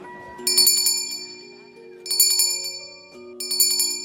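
A Salvation Army charity handbell rings in three bright, jangling bursts spaced about a second and a half apart on a street at Christmas time in December, standing out over a soft, steady background of sustained tones.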